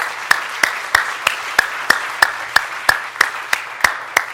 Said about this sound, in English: And I just feel like after, after a moment of worship like that, I think applause is in order for our God. Let's give applause. Praise God.